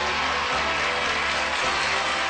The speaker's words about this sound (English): And it's kind of nice because I heard your friends out there cheering, and nobody was happier for you than your friends, and that's always nice.